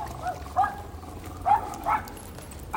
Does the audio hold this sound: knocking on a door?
no